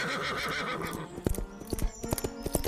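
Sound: horse galloping hooves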